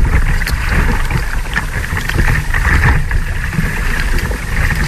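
A continuous wash of sea water with splashing and sloshing, and soft rhythmic dips of paddles stroking through the waves as two people paddle surf on the sea at Caldes d'Estrac, in the Maresme, on a Sunday. No one speaks.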